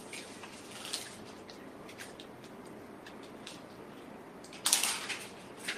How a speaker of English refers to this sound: It's raining. Thank you, Lord. We need the moisture.